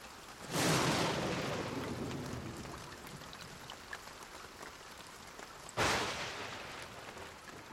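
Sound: rain falling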